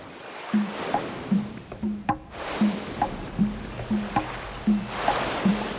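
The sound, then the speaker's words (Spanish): Ocean waves wash onto a beach in steady surges, a continuous hissing roar that swells and fades, with faint short chirping calls scattered over the surf and no voices. “¡Qué sonido de playa, de mar, de olas!”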